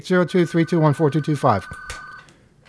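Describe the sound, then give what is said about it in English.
A steady electronic phone ring sounds in the studio of the radio call-in show Off the Hook under a person's talking, then keeps going on its own for a moment before cutting off. “Can you pick up the phone, please?”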